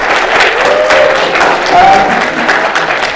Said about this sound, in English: Can I have a round of applause for the returning, or new to you if you've never seen him before,